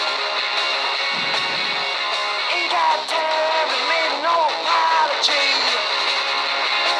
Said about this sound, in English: Isn't that the best? Technology. Isn't that funny that I knew the song? Yeah, but isn't that the best ringtone you've ever heard?